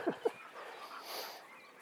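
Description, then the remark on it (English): Lottie, an ageing female dog, puffs and pants quietly: two short, sharp huffs in quick succession, followed by a soft, steady breathy hiss. No one speaks. “Lottie's puffing and panting as well because she's getting a bit older, and she seems to be more puffing and panting, but she still keeps going, don't she?”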